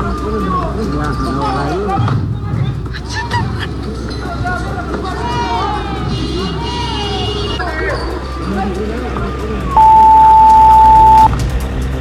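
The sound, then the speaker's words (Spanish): A loud, chaotic street scene as hooded protesters block traffic, attack a bus and throw combustible objects, with a dense crowd of overlapping shouting voices, and near the end a steady, piercing horn-like tone sounds for about a second and a half. “Escuchamos parte de lo que fue este ambiente protagonizado por parte de estos encapuchados quienes bloquean el tránsito y posteriormente lanzan estos elementos combustibles.”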